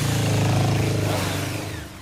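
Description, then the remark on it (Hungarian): A motorcycle engine roars loudly, a steady throaty rumble that holds strong before easing slightly toward the end, with no talking over it. “Süt bárja alatt a mit kívánt, hogy ilyen hangosan búgatnyi motorkát, én!”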